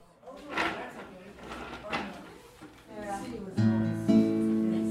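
Wooden scraping and bumping of tables and chairs being moved around a room at a community drop-in's Thursday noon choir practice, several knocks and drags, then sustained musical notes begin and swell as people settle in to sing.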